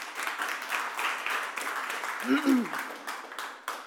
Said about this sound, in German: auch da einen herzlichen Applaus.